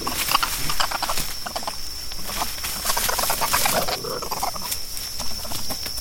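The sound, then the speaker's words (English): Spider monkeys at play, not real aggression, a busy stream of overlapping squeals, chirps and chattering calls that keeps going throughout, moderately loud, over a steady high-pitched hum. “That is actually just spider monkeys at play, not real aggression.”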